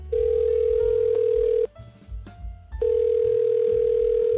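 A loud, steady telephone ringing tone sounds in two long pulses with a short gap between them, like a call connecting, over a low background bed of music.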